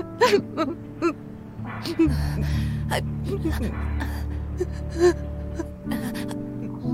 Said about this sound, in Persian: چرا داری گریه میکنی؟ اینجوری عذاب وجدان میگیرم.